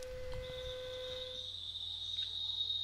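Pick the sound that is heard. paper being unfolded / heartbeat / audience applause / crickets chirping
crickets chirping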